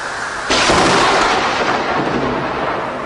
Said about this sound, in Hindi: इतने में जोरों की बिजली कड़की।